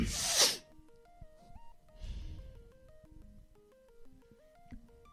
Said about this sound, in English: You sneezed. That wasn't me. No, yeah, you did. I watched you.